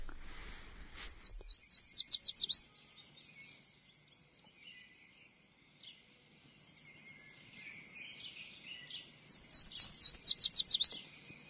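A recording of sparrows chirping in two bursts of rapid, high-pitched repeated notes, with quieter scattered twittering in between. No voices are heard.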